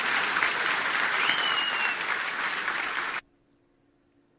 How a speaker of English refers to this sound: Now, if it seemed like that applause went on for a pretty long period of time, it's because it did. That turned into a standing ovation.